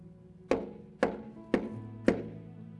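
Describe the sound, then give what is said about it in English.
Four steady, evenly spaced knocks on a door, each a solid thud with a short ringing decay, moderately loud with no voices. “When we look at Revelation chapter 3, verse 20, it says, "Look, here I stand at the door and knock."”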